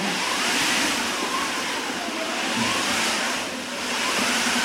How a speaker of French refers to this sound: Ici, on fabrique les sons de façon mécanique. On n'est pas les premiers, parce qu'il y a un siècle, quand dans un opéra, nous voulions entendre, par exemple, le vent. Ah oui, c'est une machine à vent. Voilà, bravo. C'est une machine à vent.